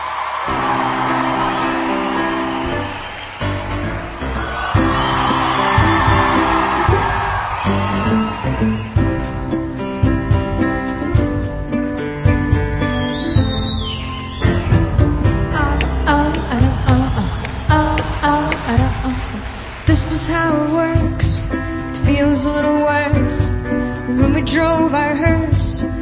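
A song performed live by a female vocalist over a full band at steady, loud volume, from a concert recording in London. Faint crowd noise and occasional whoops from an audience sit beneath the music.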